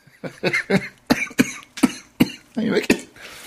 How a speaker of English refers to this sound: I really should mute myself when you don't making me cough, man. Making me laugh, making me cough.